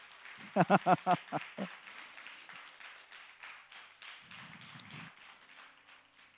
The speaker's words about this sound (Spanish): Segundo aplauso para el Señor.